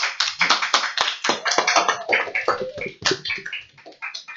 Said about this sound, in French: bienvenue dans notre club radio, la radio FR de Brou, sous un tonnerre d'applaudissements.